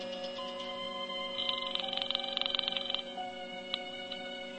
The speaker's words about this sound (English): I was going to phone the El Paso police and tell them where I'd last seen the man answering the description of the Abilene bank robber. I dialed and waited for her to answer.